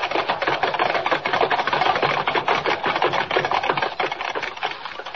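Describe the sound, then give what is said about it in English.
A rapid, continuous clatter of galloping hooves from six white horses running wild and pulling a swaying silver carriage through a crowd-lined street, many overlapping beats drumming at a steady fast rhythm, loud and dense for the whole stretch with no voices. “Thundering hoofbeats echo through the crowd-lined street as the six white horses, suddenly gone wild, carry the swaying silver carriage to almost certain doom”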